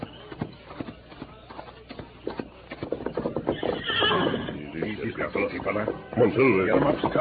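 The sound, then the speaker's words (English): Hooves clip-clop in a quick, steady rhythm as horses are ridden into the hills by the light of a bright moon, then a horse lets out a loud, drawn-out whinny that rises and wavers over the continuing hoofbeats. “Let's get the horses and follow them.”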